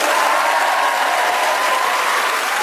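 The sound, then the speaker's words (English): Steady, dense audience applause welcoming the four panelists of the radio show Just a Minute at the Radio Theatre in Broadcasting House: many hands clapping at once in a continuous loud wash of crackling noise that holds evenly for the whole stretch without letting up. “Would you please welcome all four of them?”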